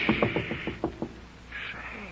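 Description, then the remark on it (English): A quick, steady run of about seven fairly loud knocks on a door, followed by a quieter stretch with a faint, sustained tone in the background. “Do you hear anything? Of course I do. There's somebody at the door.”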